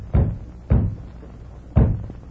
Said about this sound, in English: What is that? Sound like someone trying to rap on the door. Mighty weak door rapping.